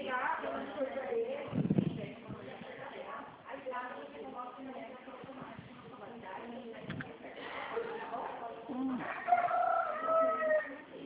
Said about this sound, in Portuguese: Tem galinha aí também? Tem galinha.